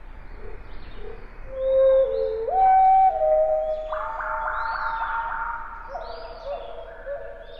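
A wood thrush song slowed to quarter speed: long, pure whistled single notes stepping upward, produced by the left side of the bird's syrinx, then a dense, warbling buzz of layered notes from the right side of the syrinx, eerie and echoing, heard alone without talk.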